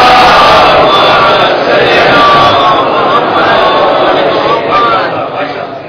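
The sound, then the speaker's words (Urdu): A large audience recites salawat together in unison, a loud, dense wall of many voices sustained for several seconds before easing slightly at the end. “ایک مرتبہ صلوات بھیجیں آپ”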